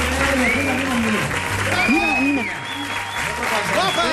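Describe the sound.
Loud, sustained audience applause for a 12-year-old guest on a show, a dense steady clatter of many clapping hands, with cheers and voices rising over it now and then.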